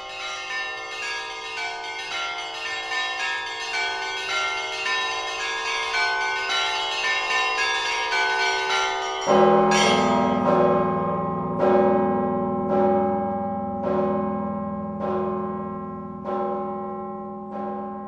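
Church bells ring in a dense, overlapping peal; partway through, heavier strikes join at a steady pace, each stroke ringing out and fading under the continuing chime. No voices.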